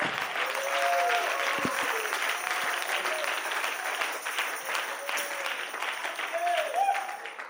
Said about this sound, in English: Oh, give God a hand clap.